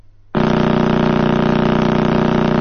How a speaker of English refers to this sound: You just heard the sound emanating from the Crab Nebula.